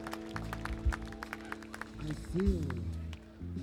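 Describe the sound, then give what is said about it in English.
An audience applauds a touring sound crew member from North Carolina. The clapping is scattered and uneven, with sharp irregular claps rather than a dense roar, mixed with voices and a low sustained hum underneath. “Give a nice big round of applause”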